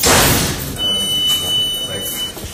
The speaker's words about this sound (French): Et toute la journée, il y a ce bruit, là, des portes qui font clic-clac. Ouais, toujours.